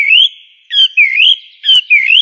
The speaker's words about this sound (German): Aber meistens hört man eben die Amseln, so lauten, flötenden Gesang als erstes.